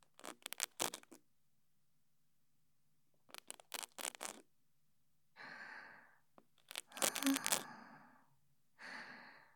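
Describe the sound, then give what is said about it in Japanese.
Ear pick scratching inside an ear: three clusters of crisp, rapid scratchy strokes, separated by silence, with soft breathy exhales drifting in between the later bursts. “はい、それでは耳かきの方を失礼しますね。”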